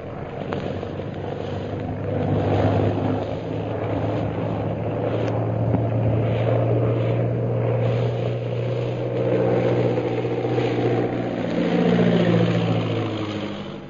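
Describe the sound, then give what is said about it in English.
A propeller plane piloted by Derek Bluger roars in from the hill, its engine droning steadily overhead, a loud, sustained low rumble with a throbbing tone that swells and eases slightly as it circles for a landing. No voices are heard. “A few hours later, the plane piloted by Derek Bluger roars in from the hill. Lin Pu and Shanghai Lil watch it circle for a landing.”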